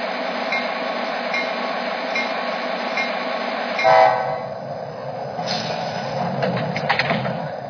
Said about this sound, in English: Los Angeles Union Station on track 1, train number 600, the Orange County Line.